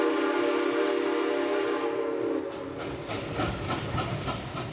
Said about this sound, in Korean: 네, 들리는 것처럼 기차가 개통됐군요. 네, 당시 미국 최대의 철도업자인 벤더빌트라는 사람이 석유 운송 사업을 장악하기 위해서 클리블랜드까지 진출을 한 겁니다.